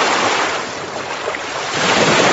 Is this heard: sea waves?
yes